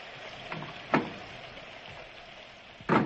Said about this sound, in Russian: Этот нудный дождь разогнал даже всех любопытных от дома.